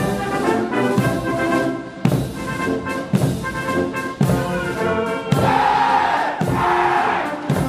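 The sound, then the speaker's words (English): A large crowd of flag-waving children cheers and chants in loud, rhythmic bursts roughly once a second, their high voices swelling into a sustained shout near the end, at a welcome ceremony for President Trump in Beijing amid a military parade. “Trump shook hands with his Chinese counterpart Xi Jinping amid a military parade and was surrounded by crowds of flag-waving children.”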